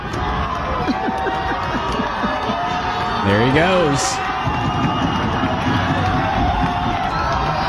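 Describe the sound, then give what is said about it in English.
A football crowd cheers wildly as the Hornets score a 75-yard touchdown in the final seconds of a game, in a dense, continuous roar that swells louder midway, with excited whoops rising above the din while a man speaks briefly over the noise. “Oh, the crowd's going nuts.”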